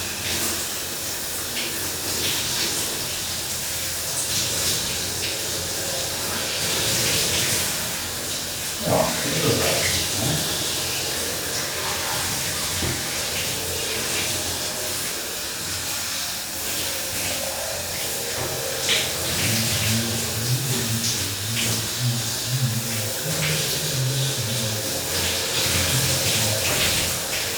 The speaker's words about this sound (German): Das Duschen ist schön. Ich habe es beschlossen, wir werden noch ein bisschen wärmer machen. Ja, ich werde noch ein bisschen schön warm duschen und nachher wird es schön kalt.